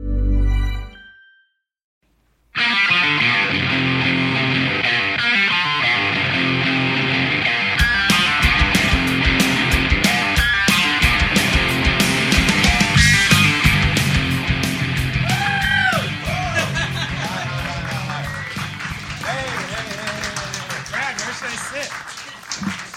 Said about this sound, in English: That smattering of applause. I appreciate it.